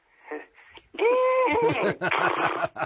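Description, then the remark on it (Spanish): A horse named Noya, which pulled a small boat, whinnies: a loud, high tonal cry that breaks into a rapid series of shaky, pulsing bursts, lasting a couple of seconds, after a brief soft murmur. “Y bueno, pues, pero sobre todo contando que iría un caballo tirando de la barquita.”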